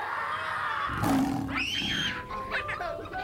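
A lion roars once, loud: a sudden rough burst that swells into a drawn-out, wavering growl and then trails off over a faint steady background hum.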